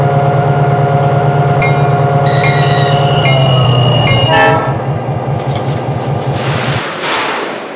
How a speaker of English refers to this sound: Now arriving from Boston on track number one, train number 175, the Minuteman.